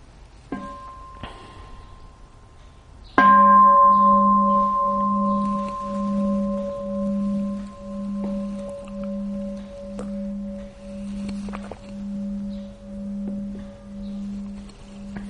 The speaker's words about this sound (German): vielleicht hören wir noch mal eine Glocke vorher.